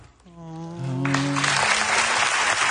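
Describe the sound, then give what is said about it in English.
Studio audience applause, prompted by the producer holding up the applause sign, swells in after a moment and holds steady, a dense wash of many hands clapping, preceded by a few voices whooping and cheering. “The producer just held up the applause sign.”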